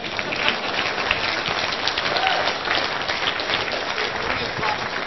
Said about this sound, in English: That part, I'm done. So applaud me.